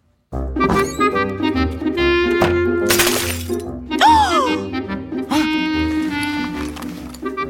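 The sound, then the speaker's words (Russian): A glass jam jar smashes with a sharp, bright crash midway through, its shards rattling briefly, all set against a steady, busy bed of music. “До свидания, варенье. Теперь еще осколки убирать.”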